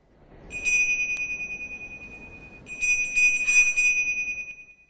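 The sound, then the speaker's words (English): A small, shiny, acorn-shaped bell with holes in its side is held up to a person's ear and shaken, its bright high jingle ringing in two bursts with a short lull between, the shimmering tone sustaining before fading out. “He lifts the bell back to his ear and shakes it.”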